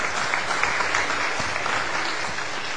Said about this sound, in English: Thank you, Mom. Everyone give Mom a round of applause.